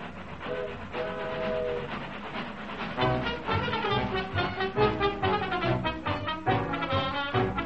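The Club Car Special train pulls out of the station: steady whistle tones sound first, then a loud, rhythmic chugging starts up and keeps going with more whistle blasts on top. No one speaks.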